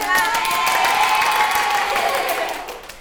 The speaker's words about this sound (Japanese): 今までで最も力強い拍手。